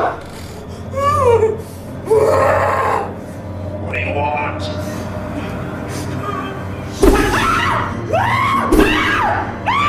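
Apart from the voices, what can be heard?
woman screaming and shouting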